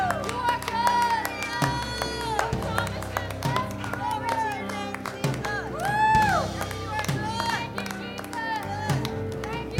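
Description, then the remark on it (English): An audience claps and shouts in praise of God, steady overlapping claps mixed with raised voices and cries over sustained music, loud and continuous throughout. “Let's release a shout and a clap.”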